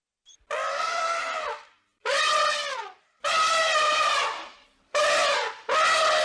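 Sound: elephant trumpeting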